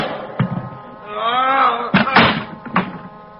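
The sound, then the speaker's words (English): A heavy meat storage room door thuds, groans open with a long creaking squeal, then slams shut with a couple of loud impacts and a final thump. “Behind me, I felt a large cold handle. The door to the meat storage room.”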